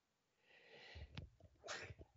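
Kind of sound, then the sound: human body sound, sneeze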